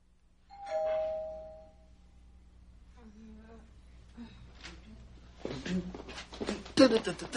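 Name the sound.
doorbell ringing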